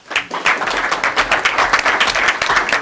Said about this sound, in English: Let's give a round of applause for all of our All Eastern students. Quite amazing. Congratulations.